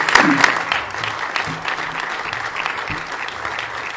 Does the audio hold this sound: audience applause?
yes